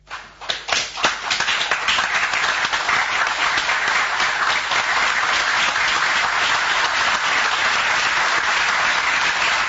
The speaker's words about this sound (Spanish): ¿Sabe que ya le distingo el aplauso entre ese ruido siempre? Sé exactamente cuál es ese.